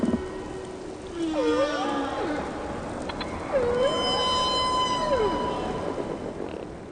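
Whale calls sweep up and down in pitch, long moaning tones with rising and falling glides and harmonic overtones, heard alone over a steady low underwater rumble.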